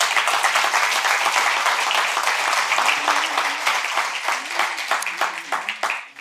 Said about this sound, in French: Et aujourd'hui, tu es assis au milieu d'un miracle. On peut applaudir le Seigneur pour ça.